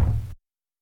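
A short, dull knock on a door, a single low thud or quick muffled cluster lasting about a third of a second, then silence. No voices.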